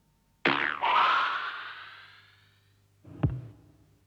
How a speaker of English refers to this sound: The actual release of the arrow is the sound of a thick elastic band being plucked.